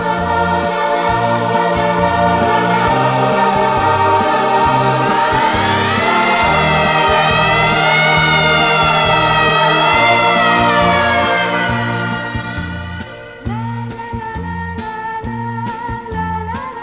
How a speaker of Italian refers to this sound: Mi ricordo che il nostro discorso fu interrotto da una sirena che correva lontana chissà dove. Io ebbi paura perché sempre, quando sento questo suono, penso a qualcosa di grave.